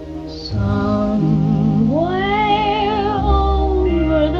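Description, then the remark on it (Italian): A cat named Harlock meows in a long, wavering, drawn-out cry, its pitch rising and bending, layered over steady background music with no talking. “Per Harlock, per tutti i gatti, i cani, tutti gli animaletti nostri.”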